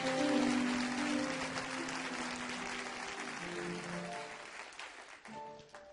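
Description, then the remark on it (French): An audience claps and cheers steadily, with sustained voices crying out in acclamation over dense applause that gradually thins toward the end. “Là, j'aime ce genre d'acclamation.”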